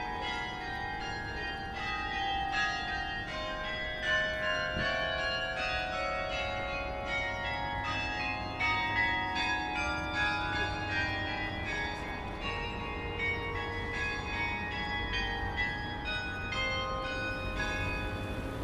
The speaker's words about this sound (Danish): besøgte Vor Frelsers Kirkes klokkespil i anledning af Christianshavns 400-års jubilæum.